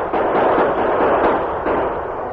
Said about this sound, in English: The outlaws were fully exposed to the sudden, unexpected burst of gunfire from the top of the hill behind their backs. The Lone Ranger and Tonto fired accurately, despite the distance.